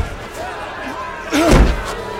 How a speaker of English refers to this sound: So they pressed hard against the man, Lot, and came near to break down the door.